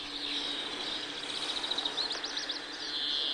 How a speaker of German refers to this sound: Da hört man jetzt dieses Eeeu. Zeeu. Hört man jetzt aber den Grünfink gleich am Anfang.